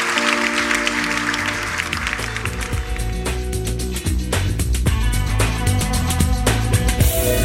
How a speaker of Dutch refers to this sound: Zullen we de Heer Jezus een applaus geven en bedanken?